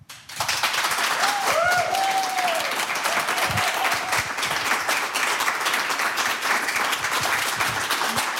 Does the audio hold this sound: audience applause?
yes